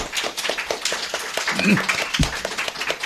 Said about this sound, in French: 也辛苦你们的哈。 Et aussi, merci pour vos efforts. 我们要不要拍手鼓励一下？ On peut les applaudir.